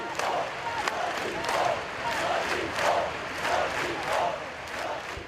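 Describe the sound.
Thousands of people gathered in Barcelona at the scene of the previous day's attack, mourning its victims, chant the slogan "We are not afraid" in unison, the phrase rising and falling in a steady repeating rhythm, loud and sustained over a constant roar of many voices.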